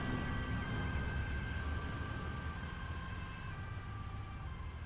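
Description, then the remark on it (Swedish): An ambulance siren holds a steady tone over a continuous rumble of slow-moving traffic as an ambulance and a police car follow in a crawling queue of vehicles, moderately loud and constant throughout, with no one speaking. “Men vi har fortfarande en bit kvar och vi har nu även en ambulans och en polisbil bakom oss som åker efter i det krypande fordonståget.”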